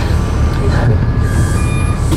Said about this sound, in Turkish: Bu bir de eski otobüs. Motor gürültüsü de fazla olduğu için arkadaşlar.